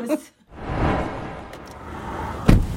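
car door slamming shut

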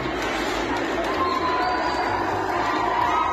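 crowd cheering

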